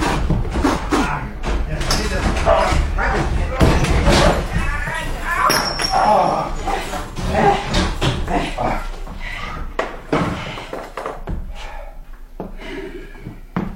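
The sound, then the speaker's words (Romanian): A door is battered and broken down by many people, with repeated heavy thuds and slams ringing out through excited shouting from several voices, loud. “Spargem ușa! Sunt mulți! Sparg ușa!”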